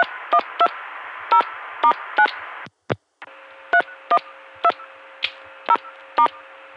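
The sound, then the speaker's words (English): About a dozen short touch-tone beeps dialed in quick succession over a hissy, narrow telephone line, with a brief silent break partway through before the dialing resumes. The tones are sent on both the incoming and outgoing sides of a call routed through Atlanta to a Bell System line. “So, let me touch tone and stuff on both sides.”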